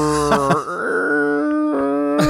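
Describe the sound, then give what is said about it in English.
A voice imitates a deep-diving submarine's creaking hull to mimic how a car will squeak: drawn-out, strained groans that bend and slide in pitch, with a brief dip in the middle and no words spoken. “Your car's going to sound like a submarine that dove too deep.”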